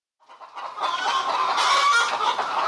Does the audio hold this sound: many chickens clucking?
yes